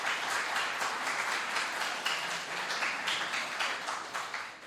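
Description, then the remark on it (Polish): A church audience applauds a children's skit prepared by the Sunday school, many hands clapping in a dense, continuous patter of bright, crisp claps that holds a fairly even level and tapers slightly at the end. “Także brawa.”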